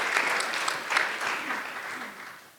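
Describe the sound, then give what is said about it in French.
An audience at an event claps steadily for the organizers, a dense wash of many hands, slowly thinning and fading toward the end. “Donc, on peut les applaudir.”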